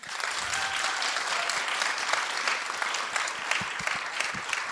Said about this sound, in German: Können mal die klatschen, die den Podcast hören?